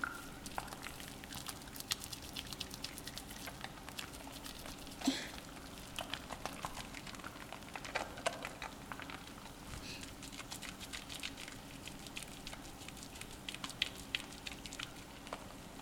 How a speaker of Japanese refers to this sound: いい音でしょ。これもあなたを癒すための一本。体に実際につけてみるのもいいけどね。泡の音を聞いているだけでふわふわに包まれてるみたいでしょ。